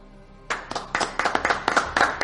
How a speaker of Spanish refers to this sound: Los uniformados de la Guardia Civil, la Policía Nacional y el Ejército no sabían en ese momento que sería su último aplauso, porque el gobierno le retiraría días después de esas ruedas de prensa.